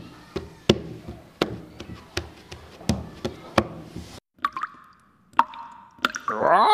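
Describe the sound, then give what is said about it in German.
Fingers drum a quick, uneven rhythm on a tabletop, a run of sharp taps for about four seconds, followed by a few short tonal chirps and a rising warble. “Kannst du das auch auf dem Tisch trommeln mit den Fingern?”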